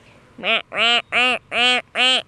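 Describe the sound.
A woman imitates a duck with a quack she learned from her own ducks: five loud, nasal quacks in a quick steady rhythm, with short gaps between each call.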